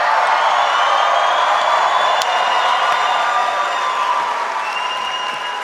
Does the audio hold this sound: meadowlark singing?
no